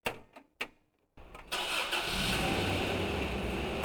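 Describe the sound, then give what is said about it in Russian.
A few sharp clicks and thumps, then a car engine cranks and catches, settling into a steady, fairly loud hum as the car slowly pulls away up the road. “Мы сели в автомобиль, и машина медленно двинулась вверх по дороге.”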